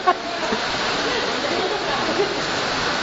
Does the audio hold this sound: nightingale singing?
no